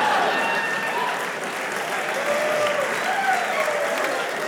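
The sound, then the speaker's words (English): A crowd claps steadily for several seconds, a dense, even wash of applause that stays loud throughout without building or fading, with faint murmurs mixed in. “You save your applause until it's your turn.”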